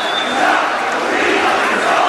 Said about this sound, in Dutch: People are all chanting down, down with the regime. There is nothing more clearer that the message is coming out of these people. There you go, exactly that. Don't stay here, Mubarak. It's their clear, simple message that they want to get across.